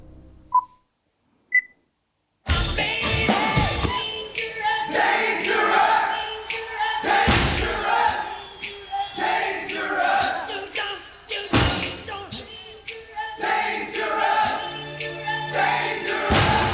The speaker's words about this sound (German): Das Publikum ist da recht laut zu hören auch. Was auch für Buenos Aires spricht halt.